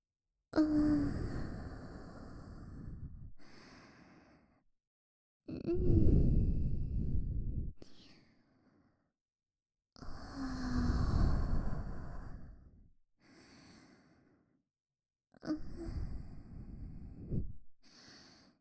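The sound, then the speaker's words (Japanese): Four long, breathy exhales blown into the listener's ears, each a soft rushing sigh lasting a couple of seconds, separated by short quiet gaps. No talking. “吐息、お耳に浴びせられるのはそんなにたまらないんですか？ただの息ですよ。”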